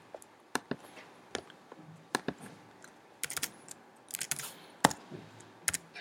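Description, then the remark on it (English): Irregular keystrokes on a computer keyboard, a scattered run of sharp clicks with brief pauses and a few quick flurries, fairly quiet, with no talking. “2014, wrong keyboard.”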